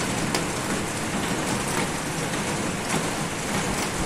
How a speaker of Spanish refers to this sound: Aguacero en la ciudad en torno a las 6 de esta mañana, que nos hizo despertar con las calles mojadas y que alertó a los que fueron capaces de conciliar el sueño, porque la noche fue tropical con unos 22 grados.